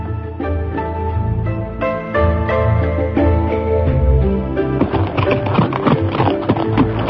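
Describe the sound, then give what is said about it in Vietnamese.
Rapid rhythmic hoofbeats of a galloping horse carrying two riders, Đoàn Dự and Dương Ngữ Yên, past mulberry gardens, steady, under a loud, sustained music bed that grows busier toward the end. “Đoàn Dự cùng Dương Ngữ Yên cưỡi chung một con ngựa, phóng qua không biết bao nhiêu vườn dâu.”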